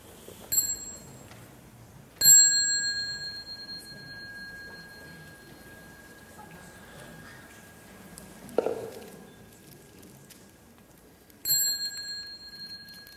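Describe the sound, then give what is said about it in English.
A small meditation bell is struck three times with no one speaking, at a practice session with monks and nuns, signaling people to stand up, bow and go out; the middle strike rings out clearly and sustains for several seconds, while the first and last strikes fade more quickly, with a soft thud partway through. “So when you hear the small bell, stand up and go out, bow and go out, and continue your practice outside.”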